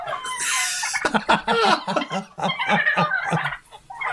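A loud, rapid burst of turkey gobbling played as a sound effect, several birds warbling together in quick, rattling pulses for a few seconds, clear with no talking over it.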